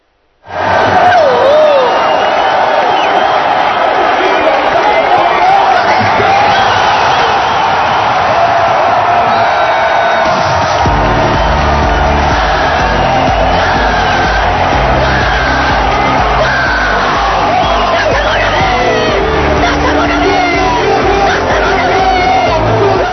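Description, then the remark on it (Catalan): A loud football crowd at the Municipal in Olot roars and cheers continuously at the final whistle of Olot's last-round match against Elche, with whoops, yells and shouts rising out of the dense noise, and a rhythmic low pulse of chanting or clapping joining in partway through. “A més va ser un partit en què hi havia molta afició.”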